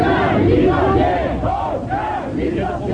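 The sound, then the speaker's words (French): Dozens of LIP workers shout and chant together in a loud, steady roar, clapping their hands, as Henri Giraud drives his car through them; rising and falling voices with clapping blended into the din for the whole stretch. “Henri Giraud est donc reparti au volant de sa voiture en tentant de se frayer un passage au milieu de dizaines de LIP, criant et tapant dans les mains.”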